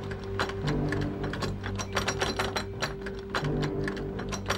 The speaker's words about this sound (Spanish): Al mirar por la mirilla, notó que un hombre intentaba forzar el cerrojo.